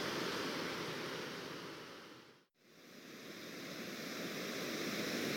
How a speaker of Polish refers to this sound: No lubię szum wody, ale taki hałas to trochę przesada. Jestem przy tym ostatnim, tym dużym progu wodnym, o którym mówiłem, dokładnie nad nim w tej chwili. Mam już kilka ujęć tu zrobionych. No słychać, że jest tu trochę siły w tej wodzie.